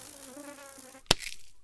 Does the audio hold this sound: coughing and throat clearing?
no